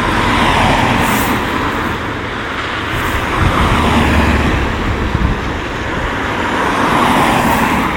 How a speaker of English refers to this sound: Something must have happened for this amount of traffic to come down here.